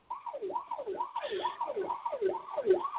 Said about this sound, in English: You know, that siren is starting to get annoying. I was just thinking the same thing.